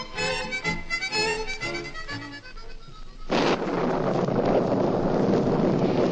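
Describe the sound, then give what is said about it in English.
A few seconds of music give way to a sudden, loud, steady roar of heavy rain and gusting wind, raining on Commander Povey, that holds unbroken to the end, with no one talking. “However, when it rains on Commander Povey, it's doubtful if any storm could weather his raging fury.”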